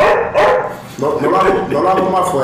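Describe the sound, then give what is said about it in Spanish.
A person imitates a small dog, yapping out several short, high, nasal barks and yips in quick succession, fairly loud. “Bueno, hay un sonidito original que es como un perrito real.”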